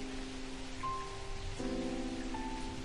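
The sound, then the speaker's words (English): Steady rain pours down on a street in a continuous, even hiss, with sustained low musical tones droning faintly underneath, in a dramatized scene from George Bernard Shaw's play Pygmalion set in Covent Garden. No voices are heard. “Let's begin our story in the rain, on the street, with particular attention paid to a flower girl.”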